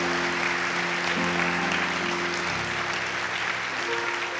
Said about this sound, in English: Come on. Come on, church. Give them a hand clap. Hallelujah.